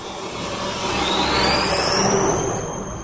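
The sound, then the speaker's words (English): A big diesel dump truck roars past in the traffic on Columbia Pike, its broad engine rumble swelling to a peak midway and fading, with a high whine sliding upward as it goes. “And then here comes another truck. Big diesel dump trucks.”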